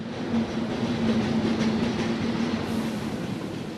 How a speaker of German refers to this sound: Am Bahnhof Hergiswil kommt der 5-6 Zug von Luzern an. Viele Pendlerinnen und Pendler, die zu Luzern oder weiter auswärts arbeiten, steigen aus und gehen heimzu.